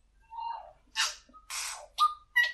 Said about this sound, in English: It's everything that you hear in the recordings I've made are actually a Tui, no electronic manipulation or anything like that, and they're renowned as imitators. They imitate other birds. So that's a Tui.